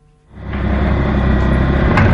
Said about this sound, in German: Vor der Kaserne zu Frauenfeld sind die schweren Geschütze schon zu hören. Ein paar Radschützenpanzer donnern am Kasernenplatz vorbei.